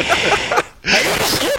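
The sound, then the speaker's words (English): A loud sneeze: a breathy intake, a brief pause, then a harsh, noisy burst that trails off over about a second. “Bless you.”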